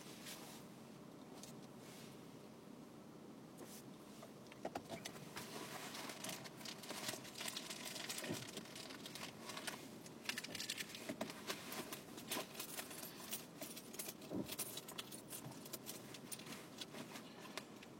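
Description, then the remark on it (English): Continuous rustling and crinkling as someone digs through a pocket for a cough drop, with scattered small clicks and jingles, over a steady low hum of a moving car. “I could find the cough drop I put in my pocket this morning.”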